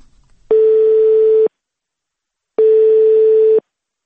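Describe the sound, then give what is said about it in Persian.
A telephone ringing tone of a call placed to athlete Alidad Ismoilov in the town of Novokuznetsk sounds twice, each a steady one-second beep separated by a pause of about a second, clear and fairly loud with no voices. “ما تلفنی علیداد را در شهر نوکوزنیتسک پیدا کردیم و صحبت ما این گونه آغاز یافت.”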